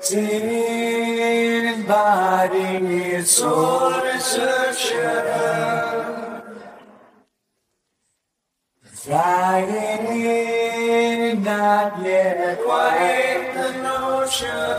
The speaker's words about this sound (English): Then he threw a little reverb on it, which creates a slight echo and creates this sense of vastness, and the end result sounded like this.